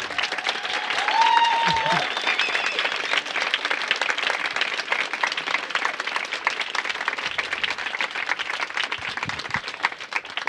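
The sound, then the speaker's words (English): A large audience at an evening event breaks into loud, sustained applause to welcome ecofeminist activist Vandana Shiva, dense clapping continuing steadily for about ten seconds, with a brief cheer or whistle rising early on. “Vandana Shiva, infatigable militante écoféministe que je voudrais qu'on commence par applaudir à tout rompre.”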